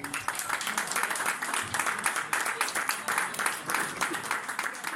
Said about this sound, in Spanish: Primero de todo, quería decir que creo que la selección de los artistas que hay hoy aquí en la presentación es muy top. Así que me gustaría que le dieseis un aplauso a todos.